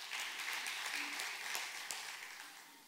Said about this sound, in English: I'm thankful for the fathers here in the house today too, who come with their wife and bring their kids to the house of God so they can see both mom and dad love the Lord. But I think we should clap that. I think that's worthy.